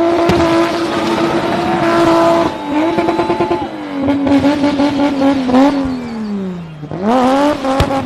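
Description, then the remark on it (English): A car engine revs hard and repeatedly, its pitch climbing and dropping in long sweeps as the vehicle spins, loud, with bursts of acceleration and no talking. “First on his deliverables is turning car spinning into the biggest sport in South Africa.”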